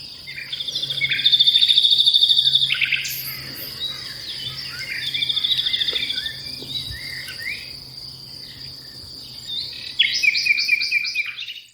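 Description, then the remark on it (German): A nightingale sings loud, varied phrases of rapid trills and whistles, pausing briefly between bursts, over a steady background chirring of crickets, with no voices. “Also, er sagt, also, die Nachtigallen gelten generell im Vogelreich als die Mozarts der Vögel.”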